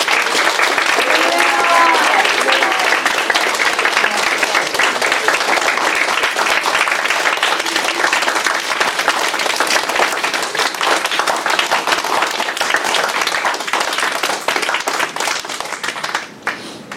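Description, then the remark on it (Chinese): A large audience breaks into loud, sustained applause given to the Heavenly Father, a dense wash of clapping that holds steady for many seconds before thinning slightly at the very end. “最后把最大的掌声要归于天父。”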